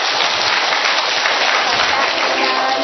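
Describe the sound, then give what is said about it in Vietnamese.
A church audience claps steadily and loudly for a few seconds, a dense, continuous patter of many hands with no pauses or talking. “Rồi cho một tràng pháo tay thưa anh chị em.”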